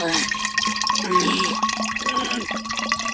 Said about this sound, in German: So, und den Rest schütten wir in deine verzauberte Milchflasche.